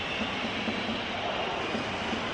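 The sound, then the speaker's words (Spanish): Real Madrid fans' whistling and Dortmund fans' applause and chanting at the Bernabéu stadium merge into one dense, steady roar at the half-time break, holding at an even loudness throughout, with no voices speaking over it. “Sí, sí, los pitos, algunos pitos de los aficionados del Real Madrid y los aplausos y los cánticos de los del Dortmund.”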